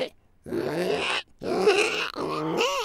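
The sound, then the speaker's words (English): A person imitates a pig with inhaled, gravelly snorts to voice a creature: three rough, squealing bursts in quick succession, the last one wavering in pitch, fairly loud and with no other sounds around them. “Well, if someone says do a pig sound, they might go reet reet, or they might go with an inhale, and that's how I'm doing this creature, is okay.”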